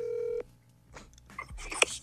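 A short, loud electronic cell phone tone sounds once as a call is placed, then cuts off into quiet handling noises and faint rustles as the call connects.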